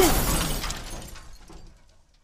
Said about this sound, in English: A tire just blew. They must have run over something. They're gonna crash! Damn it. Right into the broken rail